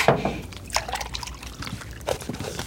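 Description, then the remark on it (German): Milk pours into a glass in a steady liquid stream, with gurgling bursts and a rising splashy fill that continues for a few seconds with no talking. “Hier, dein Glas Milch, wie gewünscht.”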